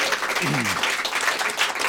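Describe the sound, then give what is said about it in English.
A crowd applauds steadily for about two seconds, a dense, even wash of clapping at a fairly loud level, with a brief low vocal sound rising and falling beneath it early on. “I'm applauding for you.”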